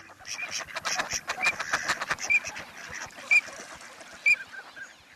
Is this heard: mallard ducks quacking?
yes